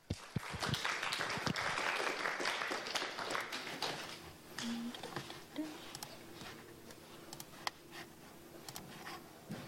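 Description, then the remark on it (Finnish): A crowd applauds after a presentation and question session, with dense, steady clapping for several seconds, then the applause thins into scattered individual claps and fades toward the end. “Annetaan vielä aplodit.”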